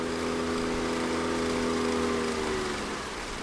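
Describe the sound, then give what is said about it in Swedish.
A motorboat crossing back over the Kalix River (Kalixälven) drones steadily with a buzzing, harmonic hum whose pitch drifts slightly lower and softens toward the end. No voices are heard. “tar båten tillbaka över Kalixälven.”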